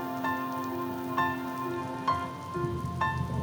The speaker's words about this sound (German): Ganz laut ist nun der Regen, er kommt zu uns herab. Tröpfelt schnell zur Erde und das macht tipp, tipp, tapp.